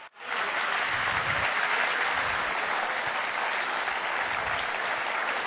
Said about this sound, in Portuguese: Vamos aplaudi-lo.